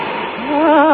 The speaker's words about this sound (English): Be careful, Min, careful. Don't let that steam get up your leg.